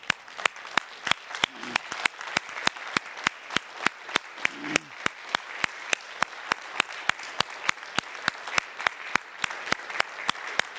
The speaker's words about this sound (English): I suggest that right now we stand and applaud our deacons